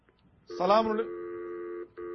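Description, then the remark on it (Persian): Telephone line connecting as a caller's call is taken on a live program of the Velayat World Network: a short warbling electronic burst, then a steady, fairly loud two-pitch tone that holds for almost a second, breaks briefly, and starts again. “بر صورت ما در خدمت شما هستیم، تلفن‌های شما را میگیرم ان شاء الله العزیز در همین چارچوبی که عرض کردم.”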